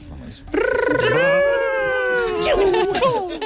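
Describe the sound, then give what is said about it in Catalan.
In a game where parents imitate video game sounds, a parent imitates Sonic, the blue hedgehog, running very fast: one loud, sustained, whiny vocal tone lasting about three seconds, its pitch wavering and bending up and down, with no words. “I heu de fer el Ronald d'en Sonic corrent molt ràpid, molt ràpid, molt ràpid.”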